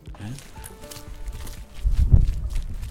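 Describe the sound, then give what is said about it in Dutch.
Footsteps walking through a gallery across a hard floor, echoing and growing louder toward the end, with faint voices murmuring in the background. “Hier lopen we door de galerij.”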